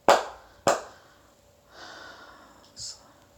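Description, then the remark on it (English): Two sharp, loud slaps on skin land about half a second apart, followed by soft breathy exhaling and a brief, higher-pitched breathy burst near the end. “Slap.”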